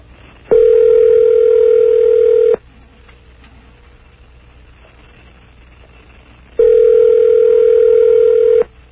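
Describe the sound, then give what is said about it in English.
A telephone ringback tone heard over the line while calling a convenience store in Atlanta, Georgia: two steady, buzzy, mid-pitched rings about two seconds each, separated by a long silent pause, with no one talking. “And let's see who we get on the phone.”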